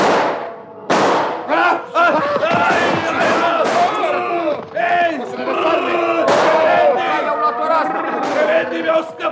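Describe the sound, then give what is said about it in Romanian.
A volley of pistol shots from pistols loaded with six bullets each: several sharp loud cracks spaced irregularly, bursting through a crowd of men shouting and yelling over each other throughout. “Am auzit eu împușcăturile.”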